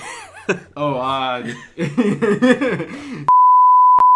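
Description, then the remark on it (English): Voices talk and chuckle, then a loud, steady, high-pitched censor bleep cuts in and holds for almost a second, broken briefly by a click near its end. “It's bleep.”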